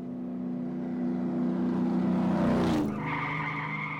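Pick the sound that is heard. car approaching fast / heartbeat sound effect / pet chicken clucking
car approaching fast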